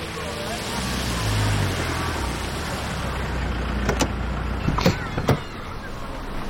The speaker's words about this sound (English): Cars pull up to Lake Chelan Elementary School.